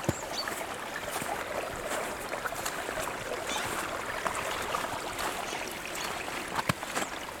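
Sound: small mountain stream flowing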